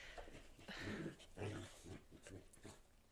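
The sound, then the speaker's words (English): A puppy in a video makes a string of short, grumbly growls mixed with thin whimpers, several bursts in quick succession, fairly quiet and with no one talking. “Oh, yeah, I'm just watching puppy videos again.”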